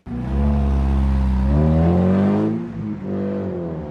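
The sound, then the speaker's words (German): A car engine revs hard and loud, pitch climbing steadily before dropping off, then revving up again briefly, with a faint street hum underneath, as a driver accelerates hard at midday on Berlin's Kurfürstendamm near the Gedächtniskirche. “Es ist noch nicht so voll wie am frühen Abend, aber ab und zu gibt hier ein Fahrer so richtig Gas.”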